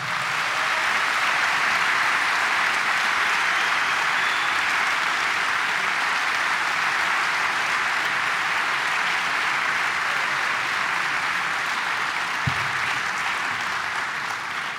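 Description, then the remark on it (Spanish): Sustained audience applause fills the whole stretch, a dense, steady wash of many hands clapping with no voices, holding at even loudness before easing slightly at the end. “les voy a pedir el aplauso mejor que tengan para el señor Marcelo Simón.”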